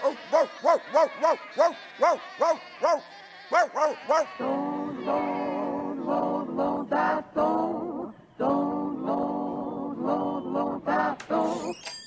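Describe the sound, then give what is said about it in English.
A quick run of short, repeated calls gives way to a chorus of overlapping, wavering lamb bleats, several lambs calling at once as they run through an opened gate into a big green field, fairly loud, with no talking. “He opens the gate and the lambs run in.”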